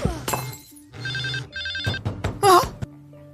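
A telephone rings in two short electronic bursts, surrounded by clattering and thumping noises and a brief squeal, with no one speaking.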